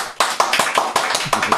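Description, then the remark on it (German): A brief burst of clapping from an audience voting by applause on a wine, about eight sharp, evenly spaced claps in quick succession, loud, with no voices over it. “Gebt bitte jetzt viel oder wenig Applaus für mein.”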